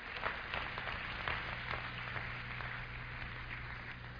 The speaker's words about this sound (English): Clap your hands and thank God.